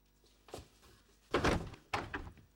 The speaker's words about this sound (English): … walks towards his bedroom door. He yawns as he opens it.